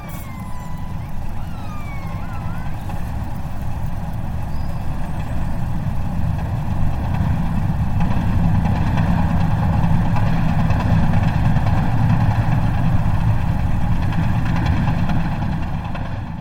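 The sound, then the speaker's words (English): Underwater hammering pulses from an Arctic icebreaker ship, recorded on hydrophones 12 kilometres away: a loud, steady, deep mechanical rumble with layered droning hums, churning continuously without clear breaks. Faint rising and falling whistles appear briefly at the start. “These are the hammering pulses made by an Arctic icebreaker 12 kilometres from my hydrophones.”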